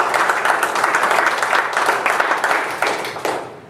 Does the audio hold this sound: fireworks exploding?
no